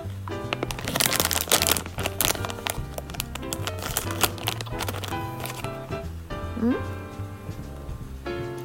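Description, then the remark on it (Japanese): A resealable zip bag of Kaldi coffee bean milk chocolate is pulled open, with a burst of crisp crinkling and ripping in the first couple of seconds, then lighter rustles while a voice talks over steady background tones. “ほんのり、これね、しかもカルディの開けたらちゃんとチャックできるようになってるんで、後で何回でも開け閉めして食べる。”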